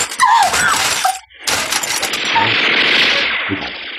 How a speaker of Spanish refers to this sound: ¡Al suelo! ¡Al suelo, rápido! Una ráfaga de balas penetra por las ventanas de aquel lado.